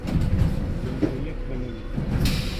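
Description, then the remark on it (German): A train rumbles to a halt with a low, steady rolling noise, then a hiss and door sounds as passengers step off, with faint murmurs of people. “Aus dem Zug aussteigen.”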